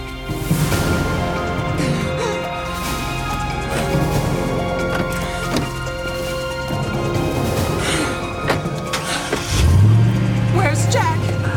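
A car engine hums steadily amid a busy, cluttered background, then near the end it revs hard and roars louder as the vehicle pulls away.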